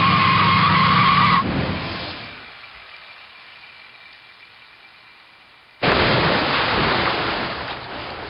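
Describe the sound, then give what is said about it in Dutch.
A car skids loudly on a rain-soaked road, its brakes failing from the rain, with a screeching tire squeal that fades into a low rumble, then a sudden harsh, noisy roar bursts in and continues to the end. No one speaks. “Ja, we kunnen hier makkelijk slippen.”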